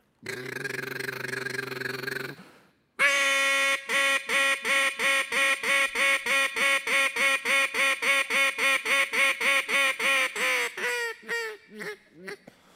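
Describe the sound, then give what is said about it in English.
A duck call blown in a fast competition-style routine for the world championship duck calling contest in Stuttgart, Arkansas: a long sustained honk, then a rapid, loud run of staccato quacks that slows and trails off into a few final clipped notes. “You take one of these duck calls”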